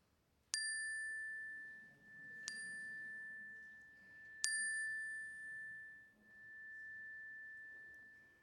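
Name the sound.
chime ringing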